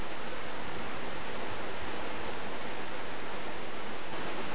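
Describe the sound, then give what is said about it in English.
Steady rain falls in a dense, unbroken hiss that holds an even loudness throughout, with no voices or other distinct sounds rising above the wash. “We're going to sing loudly so we can all hear over the rain.”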